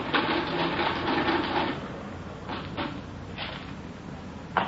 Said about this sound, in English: I just finished adding it up. Just a minute. All right. I got the figures on the machine. Tell you right away.